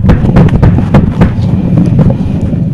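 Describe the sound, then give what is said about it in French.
A loud thunderclap: a rapid series of sharp cracking bursts over a heavy, continuous low rumble, with no voices. “Et subitement, on entendait un coup de tonnerre.”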